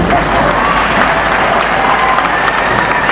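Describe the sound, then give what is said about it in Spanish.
Sustained applause from a large audience, a dense, steady wash of clapping filling the whole clip at strong volume, with faint crowd murmur underneath. “Sí, se puede aplaudir.”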